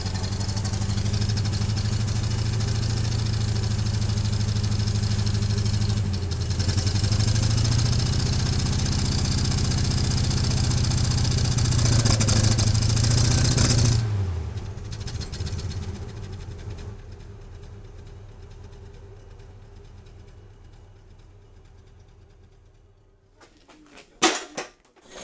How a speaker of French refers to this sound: Le moteur chaud, au ralenti ça ronronne.